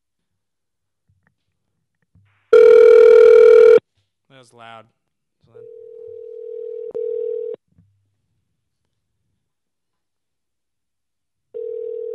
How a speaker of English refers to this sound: It's us calling him. I hope he picks up. It'd be really funny if he doesn't pick up.